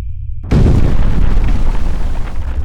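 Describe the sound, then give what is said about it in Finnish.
A low rumble breaks into the sudden, massive eruption of the Pinatubo volcano, then continues as a loud, sustained roar of deep rumbling and crackling with no voices. “Sitten Pinatubo räjähti.”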